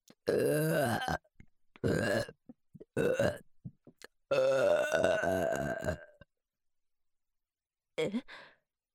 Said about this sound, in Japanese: 下品なデカパイ揺らしながら下品なゲップいっぱいします。